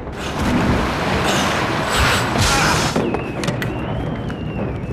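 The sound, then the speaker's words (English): A sudden explosion of water in a dam's pump room roars for a few seconds with heavy rumbling as the whole dam shakes, then eases into scattered knocks and creaks as the torrent continues underneath. “A sudden explosion of water sends Bruce flying across the pump room, and the whole dam shakes.”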